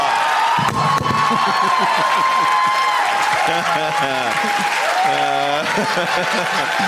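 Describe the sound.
A loud studio audience claps and cheers continuously, a dense steady roar of applause with excited voices shouting and whooping over it for the full length.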